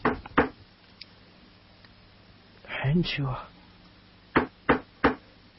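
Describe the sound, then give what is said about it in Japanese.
Three sharp, evenly spaced knocks on a door land near the end, preceded by a couple of earlier taps and a brief low vocal sound. “僕はさっき言われた通り3回叩いてみた。”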